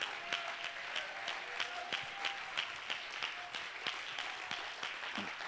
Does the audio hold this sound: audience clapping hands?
yes